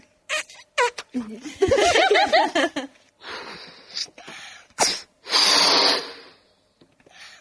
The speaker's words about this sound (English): What do we need to do first? The first thing you need to do is blow up the balloon.